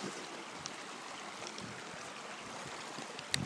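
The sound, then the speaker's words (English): A steady, continuous rush of flowing river water fills the scene as someone crosses the river on foot, a broad even wash with no pauses, with a small sharp click near the end. “I'm just crossing the river.”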